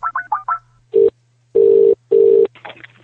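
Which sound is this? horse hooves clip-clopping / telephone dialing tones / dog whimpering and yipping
telephone dialing tones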